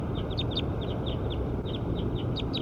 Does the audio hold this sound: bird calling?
yes